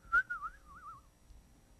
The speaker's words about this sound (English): Serve joyfully. Have that little hop in your step. You know? Smile on your face. Whistling.